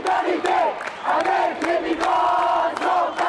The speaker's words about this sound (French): Alors que le cortège antiraciste avance vers l'avenue Bourguiba, les manifestants s'arrêtent et crient leur solidarité avec des migrants subsahariens qui observent la foule depuis leur balcon sans pouvoir participer, de peur d'être arrêtés.